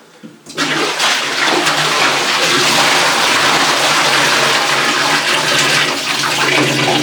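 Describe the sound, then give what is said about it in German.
About 20 litres of water pour out in a loud, steady gush that starts abruptly and rushes on continuously for several seconds, half of it spilling beside its target, splashing heavily with no talking. “Was machen wir jetzt mit den restlichen 20 Liter Wasser, die wir hier bereitstehen haben? Gregor, da geht die Hälfte daneben.”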